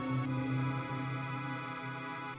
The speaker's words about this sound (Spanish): Y después tiene un par de colchoncitos instrumentales en el fondo, como este que es muy lindo.